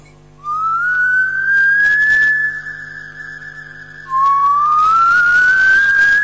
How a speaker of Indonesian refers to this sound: Berapa lama aku mendengar ada yang bersiul.